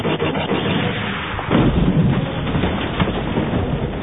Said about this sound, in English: After them came two Imperial stormtroopers on speeder bikes of their own. The lead imp bike fired a shot from its laser cannon.